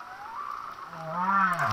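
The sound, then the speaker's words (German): Humpback whale song: a long, wavering moan sweeps up and down, joined midway by a lower tonal groan that rises and falls, with a soft hiss behind it and no talking. “So klingt das, wenn Buckelwale singen.”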